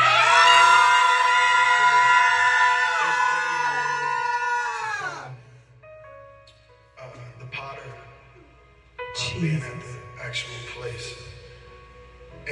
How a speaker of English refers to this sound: On the count of three, I want everybody to scream and release, because y'all suppressing and holding in some things. One, two, three. Scream.